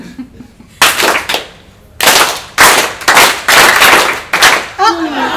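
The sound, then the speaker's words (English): An audience claps in several ragged, loud bursts on cue when a speaker crosses his hands in a simple focus exercise during a talk, each a short flurry of many hands rather than one clean unison clap, with brief pauses between them and a voice starting at the end. “If I cross them, you clap once.”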